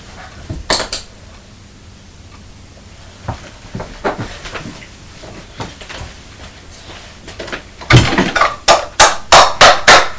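Two plastic yogurt pots bashed together by a child: a few scattered hollow knocks, then a loud, rapid run of about seven sharp clacks toward the end.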